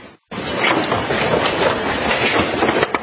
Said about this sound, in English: Oh my gosh. This hail is ginormous. Did you hear that banging? Boop, boop, boop, boop, boop. That was hail. I mean, it's brutal. Just chunks of ice falling from the sky.